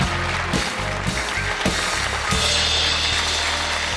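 A studio audience claps steadily as a presenter is introduced on the show WM-Doppelpass, a dense crackling wash of applause lasting throughout, with brief surges in intensity and a low droning tone running beneath it.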